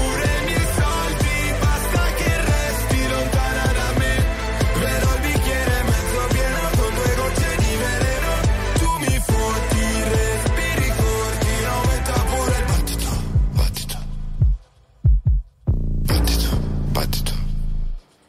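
A loud, fully produced pop song plays steadily with a dense beat and layered vocals, briefly dropping out near the end before kicking back in and then cutting off.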